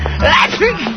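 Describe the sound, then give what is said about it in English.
A single loud, voiced sneeze: a breathy rising intake that snaps into a drawn-out, falling "choo," lasting about a second over a steady low hum. “Gesundheit!”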